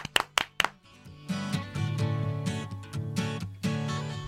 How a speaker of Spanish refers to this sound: Bueno, pues el aplauso del día. Venga, a ver, vamos a darle el aplauso del día. Para República Dominicana.